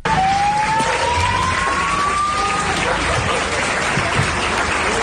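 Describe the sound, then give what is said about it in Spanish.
Sustained applause from a crowd of police and hospital staff at Hospital de Manacor, a dense steady clatter of clapping, with a siren wailing through it over the first few seconds. “Por ejemplo, el aplauso entre policías y sanitarios, esta vez Hospital de Manacor.”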